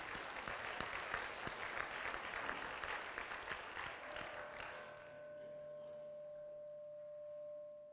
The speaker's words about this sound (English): I want to give you guys a round of applause. Fantastic job.